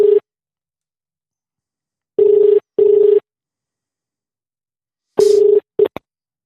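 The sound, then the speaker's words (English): A phone line's ringback tone: steady, buzzy tone bursts in a double-ring pattern with pauses between, heard down the line, cut off mid-ring by a click as the call is answered. “It's ringing.”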